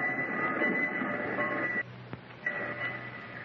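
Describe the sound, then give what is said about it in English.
A train rumbles with brakes grinding and a steady high-pitched screech over the roar; the noise drops away briefly near the middle, with a sharp click, then resumes. “He flashed the train down, and with its brakes grinding, I leaped across the rails crying out, Daddy, don't leave me!”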